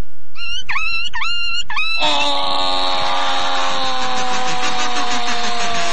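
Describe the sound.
A voice imitates a run-over dog in an animal-imitation contest: four quick, sharp yelps in a row, then one long, loud, strained howling whine that carries on to the end. No talking. The imitator is from Los Ángeles.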